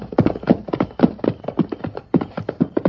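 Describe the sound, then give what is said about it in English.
Horse hooves clip-clop in a quick, steady gallop, each clop sharp, with the beats running in a near-continuous uneven rhythm and no voices. “Get him up, Scout!”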